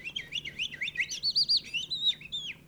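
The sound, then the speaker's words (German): A person whistles an imitation of skylark song, a rapid, continuous stream of high warbling trills and swooping notes, clear, with no talking. “Fast fügt sich zum Gesang von … Lerche wie von selbst das Schreien der Möwen”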